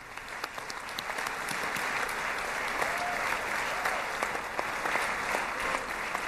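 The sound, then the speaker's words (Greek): Sustained applause in the Knesset, Israel's parliament, for Jared Kushner, with Netanyahu among those clapping, dense steady clapping that fills the whole stretch at a fairly even level, with no voices standing out. “Απερίμενε, τώρα χειροκροτάει ο Νετανιάχου. Για να συνδεθούμε με Κνεσέτ, γιατί χειροκροτάμε τώρα.”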